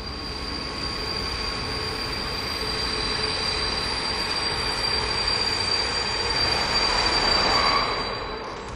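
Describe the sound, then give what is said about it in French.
A train rumbles steadily while braking, its wheels letting out sustained high-pitched squeals over the rushing noise, growing slightly louder toward the end before easing off. “Le train freina.”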